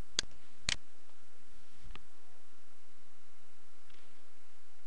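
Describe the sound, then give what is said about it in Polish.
Two sharp computer mouse clicks in quick succession, followed by a softer third click, over a faint steady hiss with no talking, as a username and password are entered to log in to a database management page. “Wprowadzamy nazwę użytkownika oraz hasło i klikamy logo.”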